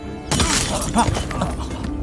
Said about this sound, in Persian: شلیک نه. کدوم بیشوری شلیک کرد؟